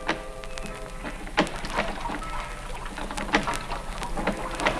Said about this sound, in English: Somebody was pulling out from shore in a rowboat.